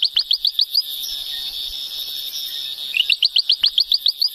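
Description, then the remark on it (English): A ventriloquial frog calls on its own: a fast run of sharp, high chirping pulses gives way to a steady buzzing trill, then another quick, regular series of chirps. “One of the species we came across was the ventriloquial frog.”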